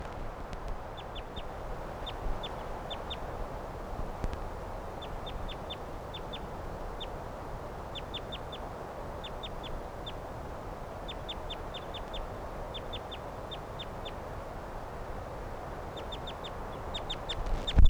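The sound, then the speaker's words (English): A flock of five wild birds, four of them males, gives short, high chirping calls in quick clusters of two or three, scattered steadily throughout over a constant low rumbling background, next to a car. Nobody speaks. “Because in all the birds in the flock of five are males.”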